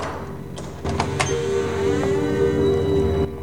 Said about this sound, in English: Looking back at him, she walks on, then opens a large wooden door.